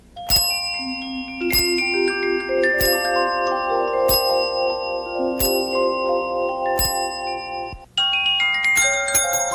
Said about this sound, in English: We could start with Reardon ringing the bell at the museum go-round.